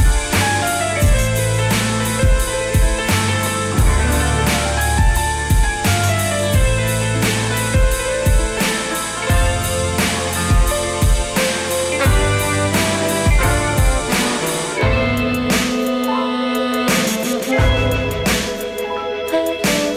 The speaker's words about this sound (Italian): questo è il pezzo che apre il suo nuovo disco.